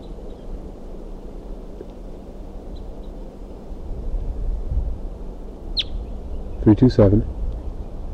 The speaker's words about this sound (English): That female came back to 327. Now she's perched about 2 feet away. There she flew up to a tree again. She's calling, and there's another wild crossbill coming in.